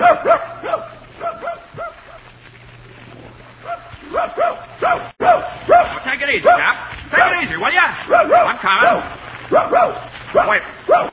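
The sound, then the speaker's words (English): A dog barks excitedly and repeatedly as it sets off with its owner to hunt rabbits, quick bursts of yips and bow-wows tumbling over one another for several seconds, with a low steady hum underneath. “Okay, suppose I get my gun and my dog and we look for a couple of rabbits, huh?”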